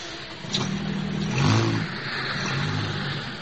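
A car engine revs up, its low droning pitch climbing to a loud peak midway before settling back into a steady rumbling run over a layer of broad road noise.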